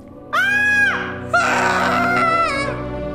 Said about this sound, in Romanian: De data asta se aud două țipete ascuțite.